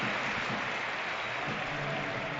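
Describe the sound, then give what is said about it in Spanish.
A large stadium crowd at a football match gives a sustained ovation as Carlos Vela is substituted off and Canales comes on, a dense, steady wash of clapping and cheering that holds evenly throughout with no clear speech over it. “Ovación para el cántabro.”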